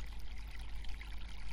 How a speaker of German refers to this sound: Und zu listening gibt's hier was. Hört ihr das Wasser?